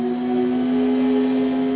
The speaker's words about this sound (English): Progress is the sound of a motor,